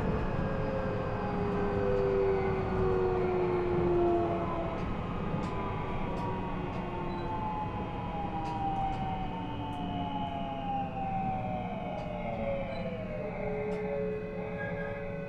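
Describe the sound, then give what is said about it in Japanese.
A commuter train bound for Kyoto rolls along with a steady loud rumble while its electric motors whine in gliding tones that sink in pitch as it slows toward a stop at Yamashita station, where Keihan and subway lines connect; no voices. “京阪電車地下鉄はお乗り換えです。お降りの際は車内にお忘れ物を使いませんようお越しください。ありがとうございました。まもなく山下です。”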